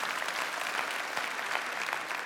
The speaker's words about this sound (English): Yeah, I think that deserves a round of applause.